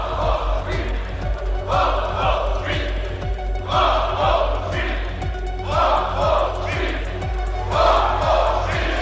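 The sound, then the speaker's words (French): An angry mob trying to lynch Dreyfus shouts in loud, rhythmic bursts, massed voices rising and falling roughly every second or two over a steady crowd roar, like chanted cries. “Et cette foule tente de lyncher Dreyfus.”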